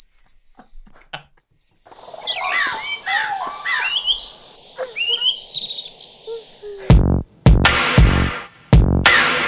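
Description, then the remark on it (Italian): Several birds chirp and sing in quick overlapping phrases over a soft buzzing background, followed near the end by a few loud, harsh bursts. No one speaks. “Registra gli uccelli.”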